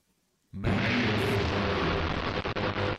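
A demo of the Eventide Mangle Verb plugin, which combines distortion and reverb: after a half-second of near silence, a dense, loud wash of distorted, reverberant noise swells in and sustains, gritty and saturated across the whole range, with a few brief dips near the end.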